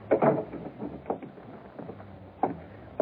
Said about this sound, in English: Now, here, I'll close the door.